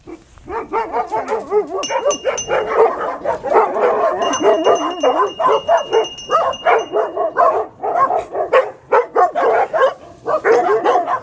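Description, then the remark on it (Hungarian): Two dogs bark loudly at a gate in a rapid, overlapping volley, with yips and whiny tones mixed in, barely pausing for the whole stretch. A faint high steady tone sounds briefly in the background. “Kapu fölött pedig kettő kutya.”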